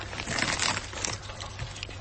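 Crunchy food being bitten and chewed, a dense run of dry, crackling crunches that keeps going for about two seconds at a moderate level, with no one talking.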